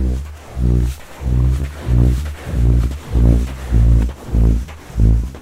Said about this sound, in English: It is, in fact, the sound of Professor Trevor Cox walking up a sand dune in the Mojave Desert in California, and as his feet disturb the sands, the dunes make a sound a little like a